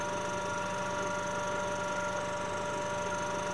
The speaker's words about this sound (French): On va entendre le bruit du rotor qui tourne de la pompe turbomoléculaire. Donc c'est très proche d'un réacteur d'avion.